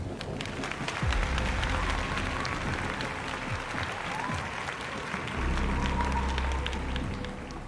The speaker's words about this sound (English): His words caused the crowd to return his enthusiasm, many of them hooting and hollering.